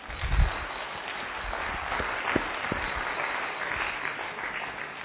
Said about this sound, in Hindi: तो उसके लिए तालियां बनती हैं।